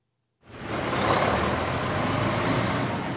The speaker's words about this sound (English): I'm just outside an ethanol plant in central Indiana, and it's pretty much like a lot of other ethanol plants. There are a lot of semi-trucks going by, and they're loaded with yellow corn kernels.